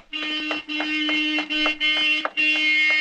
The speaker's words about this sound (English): In fact, I believe that's Marion honking now. She usually stops in on our way home from school.